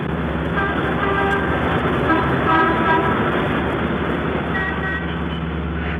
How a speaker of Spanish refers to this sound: Detrás de ella, los carros se mueven ligeros.